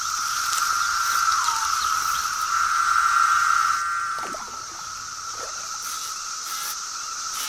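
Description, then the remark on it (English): A dense periodical cicada chorus, back after a 17-year absence and overrunning the forest, drones steadily as a loud continuous whine that eases slightly partway through, with a few brief chirps and rustles standing out near the end. “After an absence of 17 years, the forest is now overrun by cicadas.”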